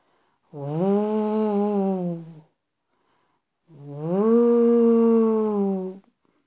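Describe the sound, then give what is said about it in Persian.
Two long, drawn-out howling tones with a short pause between them, fairly loud, with a voice-like quality, like someone imitating wind howling through a forest on an autumn day. “یکی از روزای پاییز بود، باد توی جنگل همینطور زوزه میکشید.”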